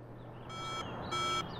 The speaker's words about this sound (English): Anya's alarm clock insistently woke her.